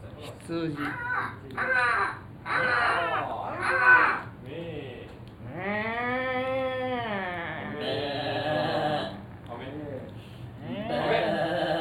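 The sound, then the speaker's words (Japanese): A person vocally imitates animal calls as part of a riddle about the weather, giving a series of harsh crow-like caws and then a long wavering sheep-like bleat, loud, with short pauses between the calls. “カラスと羊が鳴いた日の天気は何でしょう。”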